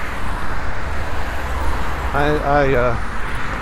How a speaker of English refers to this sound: Alright, we're going out into the street here, walking next to the traffic, because they are doing construction on this block.